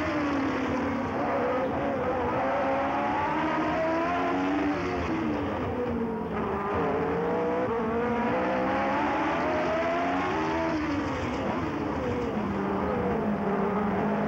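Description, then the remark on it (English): The four-valve 3-liter Cosworth DFV V8 engine of a Tyrrell 008 Formula One car screams continuously while the car drifts, its loud, buzzy pitch swooping up and down again and again as the revs rise and fall through the slides, with no talking. “So this is Tyrell 008. It's a four-valve V8 3-liter from Cosworth, and it was this called is the DFV.”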